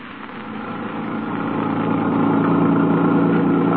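A car engine runs steadily, a low rumbling drone with a mechanical hum that grows slightly louder over a few seconds, with no voices.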